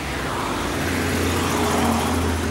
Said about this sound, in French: On est sur une route, il n'y a personne. Par une bagnole de temps en temps. Justement, tu vas voir. Tiens, en voilà une.